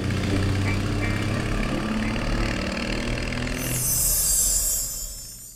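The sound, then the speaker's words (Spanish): A Harley-Davidson motorcycle engine idles with a deep, steady low rumble, fairly loud, then shifts to a brighter hiss-like roar near the end as the sound fades. “No había nada más en el mundo que Bessie Stringfield amaba más que un camino abierto y su motocicleta Harley Davidson.”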